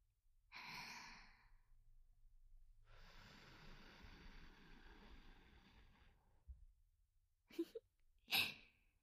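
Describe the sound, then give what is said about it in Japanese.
A soft breath is blown toward the listener as a way of sending wind, first a short puff, then a long, airy exhale lasting a few seconds, followed by a couple of quick sharp breath bursts. “吐息という形で風を届けるのも手段の一つです。”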